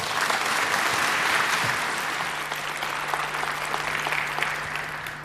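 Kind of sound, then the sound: crowd, audience applause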